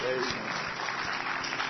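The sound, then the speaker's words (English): A church audience claps their hands in praise in a steady, even rhythm, a dense wash of clapping with a beat about every third of a second, loud and continuous. “Another good hand clap of”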